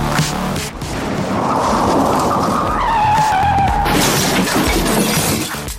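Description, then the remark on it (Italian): A car roars at speed, accelerating past 100, with a rising tire squeal, then its windshield shatters loudly in a sharp burst, glass shards flying, as the engine noise keeps rushing on. No one speaks. “Scheggi di vetro mi turbinano addosso. Il parabrezza è andato.”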